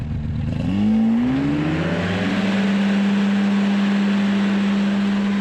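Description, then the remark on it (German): The engine of an ultralight aircraft catches and revs up as it starts, its droning pitch climbing quickly before settling into a steady, loud hum over constant rushing wind noise as its wing inflates and it takes off. No voices are heard. “Als der Motor startet, bläht sich der Schirm auf und das Ultraleichtflugzeug geht in die Luft.”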